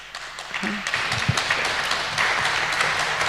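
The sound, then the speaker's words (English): A crowd breaks into applause, a dense wash of many hands clapping that swells quickly and holds steady, with a few faint voices and whoops mixed in. “Applaud if you think I should stay on Facebook.”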